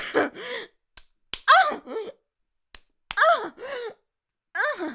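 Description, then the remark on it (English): Four sharp slaps on skin land in two pairs, each crack quick and dry, with breathy gasps and groaning vocalizations filling the gaps between them. “Slap me again.”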